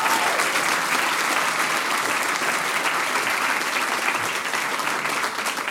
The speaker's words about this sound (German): Danke, das ist dein Applaus. Großartig hast du es gemacht.